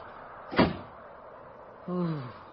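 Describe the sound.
A door shuts with a single sharp, solid thump, followed about a second later by a brief voiced sound that slides downward in pitch.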